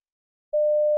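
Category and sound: signal or alarm, telephone ringing tone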